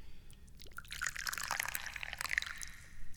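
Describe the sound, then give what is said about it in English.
High Mountain Oolong tea is poured into a cup in a steady stream for a few seconds, a bright splashing trickle that rises slightly in pitch as the cup fills, with no talking. “And, yeah, that's about all I can tell you, other than it's time to pour some tea.”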